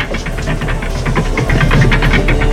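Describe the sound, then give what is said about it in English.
A steam-powered railway snowblower at Rogers Pass in British Columbia's Selkirk Mountains bellows at night as it cuts through a wall of snow, with a loud, steady low rumble and hiss, overlaid by rapid rhythmic chuffing bursts that grow slightly stronger partway through. No voices. “A steam-powered snowblower bellows into the black night as it cuts through the wall of snow.”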